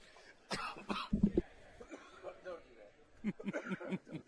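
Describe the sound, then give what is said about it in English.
Several rough coughs and throat-clearing rasps come in short bursts, fairly loud, with brief pauses between them and a second cluster of harsh hacking near the end. “Try to beat this cough.”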